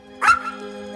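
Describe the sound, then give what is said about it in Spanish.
A small skeleton dog, Sobras, lets out one sharp, high yip, then trails into a thin, steady whimper. It sounds fairly loud, with no one talking. “El esqueleto del perrito salta a sus brazos.”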